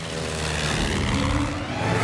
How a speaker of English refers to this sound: The propeller spins. The plane takes off.